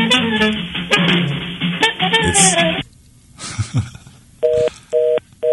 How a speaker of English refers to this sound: Try us again, caller. It was … calling us from a Ouija board in Independence. Heck yeah, I love his Ouija board ringtone. Not a bad one, is it?